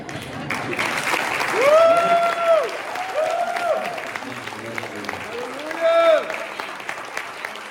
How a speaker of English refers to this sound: If you're going to give him a round of applause, give it to him good.